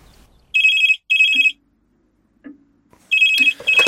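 A telephone rings loudly in its classic double-burst pattern, with a bright electronic trill, then pauses before ringing twice again. A few faint low thumps sound between the rings.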